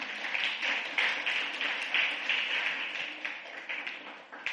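Sustained applause from an audience, with many hands clapping in a dense, steady wash of crisp claps that stays fairly loud throughout, no voices standing out.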